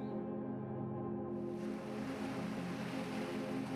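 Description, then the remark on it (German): Waves of the wide ocean crash against rugged rocks nearby, beside a barren steppe landscape, a broad roar of water swelling in after a moment and staying steady and fairly loud, with a low humming drone underneath and no voices. “Es sind die Wellen des weiten Ozeans, die ganz in der Nähe an schroffen Felsen zerschellen.”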